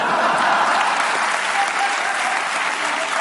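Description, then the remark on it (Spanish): Sustained applause from a studio audience, a dense steady clatter of many hands clapping at once, loud and even for the whole stretch with no voices standing out. “Sí, el perro se ha venido arriba a los aplausos y ha dicho, pues allá.”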